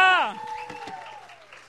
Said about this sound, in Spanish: Dale un aplauso al Señor y un grito de gozo.